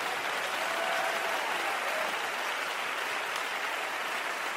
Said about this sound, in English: In the name of the Lord Jesus Christ of Nazareth, in Jesus' name, can you clap your hands unto the Lord? And if you're excited, why don't you clap those hands a little bit louder?